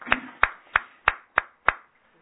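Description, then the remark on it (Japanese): Brief applause of six sharp, evenly spaced claps in a steady rhythm, each crisp and distinct rather than a dense crowd roar, fading to quiet afterward with no voices, given for a married couple's 61st wedding anniversary. “皆さん盛大な拍手でお願いします。”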